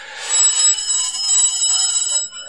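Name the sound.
telephone ringing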